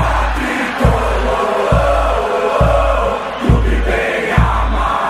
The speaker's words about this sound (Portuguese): É, foi o grito da torcida do São Paulo no Morumbi, hein?